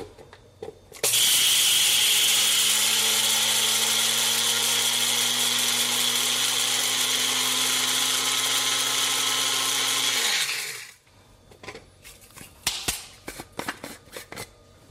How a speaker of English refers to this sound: All right, now let's get our spices ready. Gonna get some red Sichuan peppercorns in here, as well as some white peppercorns. And we're just gonna grind this until it's pretty fine.